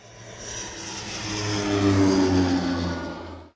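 A car engine revs up, its droning hum swelling louder and rising slightly in pitch over a few seconds before cutting off abruptly. No one speaks.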